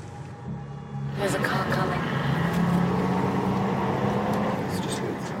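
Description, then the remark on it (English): A car engine rumbles as a car approaches on the road towards Aksum, swelling suddenly after a quiet first second and then holding a steady, loud drone with road noise, while indistinct voices murmur underneath. “There's a car coming.”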